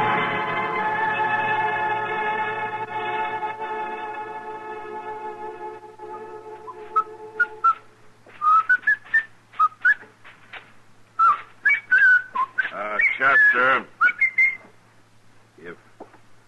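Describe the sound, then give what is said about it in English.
A sustained droning tone fades out, then someone whistles a short, lilting tune in quick bright phrases, fairly clear, with a low hum underneath. “Whistling, would you mind doing it outside?”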